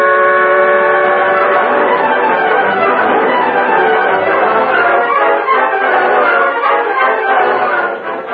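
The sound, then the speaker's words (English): A fast-moving train roars along the tracks, a loud, dense, continuous rumble and clatter with steady mechanical churning that holds for several seconds before easing slightly at the very end. “We're pulling ahead now, Tonto. Train go plenty fast.”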